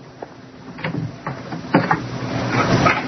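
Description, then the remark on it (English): A door between two sections of an aircraft hangar opens with a series of clunks and scraping mechanical sounds, a few sharp knocks over a low rumble that swells toward the end, moderately loud. “It's in the next one. Through this door.”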